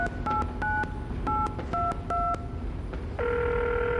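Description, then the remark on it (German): A rapid sequence of about seven or eight short two-tone keypad beeps dialing a phone number to call an expert during a quiz, followed by a steady ringing tone, all fairly clear over faint background noise. “Es ist Zeit für meinen ersten Telefonjoker.”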